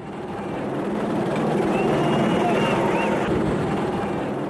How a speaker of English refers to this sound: As police helicopters hover over the city, a Nigerian looting victim says South Africa's the richest country on the continent.